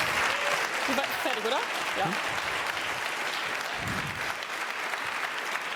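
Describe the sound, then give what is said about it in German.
Steady audience applause for two kids and teens on a stage, a dense wash of clapping from a sizable crowd, with a couple of brief spoken words over it. “Einen großen Applaus an diese beiden fantastischen Kids und Teens, die hier auf der Bühne stehen.”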